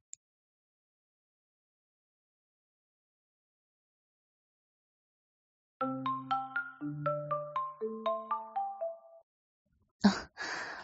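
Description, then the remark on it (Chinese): After a long quiet stretch, a phone ringtone plays a quick melodic run of bright electronic notes for about three seconds, followed by a short, rough burst of noise at the end. “老板有工作跟我说，我就让他接个电话。”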